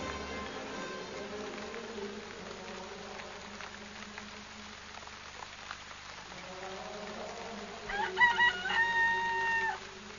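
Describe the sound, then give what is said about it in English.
A cockerel crows once near the end at dawn, a loud, drawn-out cock-a-doodle-doo rising over a steady, rain-like hiss of background noise. “She does a very good impression of a cockerel, doesn't she?”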